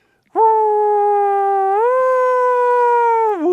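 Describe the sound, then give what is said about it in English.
A voice imitates an American police siren as heard in New Jersey and New York, with one sustained, wailing tone that climbs in pitch partway through and drops briefly at the end. It is loud, with no talking. “I grew up in New Jersey and in New York where police cars sound like this.”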